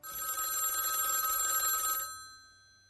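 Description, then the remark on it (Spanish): A single telephone ring while a call is being placed: a bright, steady electronic trill lasting about two seconds before cutting off and fading, heard clearly and fairly loud with no voices. “Llamando a Gringo Giordano, aquí, en Días de Pobladora.”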